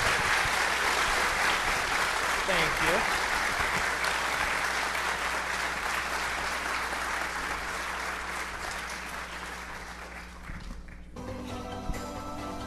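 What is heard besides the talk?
audience applause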